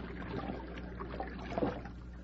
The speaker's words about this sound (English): The stream, all right. Let me get one drink.